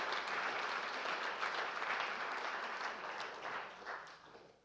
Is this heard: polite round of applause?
yes